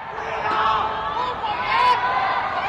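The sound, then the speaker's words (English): Residents of Chengdu, China, under COVID lockdown, call out from their apartment windows during the mid-autumn festival to cheer each other up: many voices call and shout out together in a dense, continuous babble, with scattered whoops rising above a steady crowd din, moderately loud throughout. “Residents in locked down Chengdu have been calling out from their windows.”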